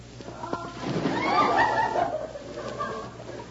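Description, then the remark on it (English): A loud splash as a man in bathing trunks, a shirt and goggles jumps into water, a rushing surge of spray lasting about a second before settling into softer sloshing and churning. “I've been down under, and it's quite an experience.”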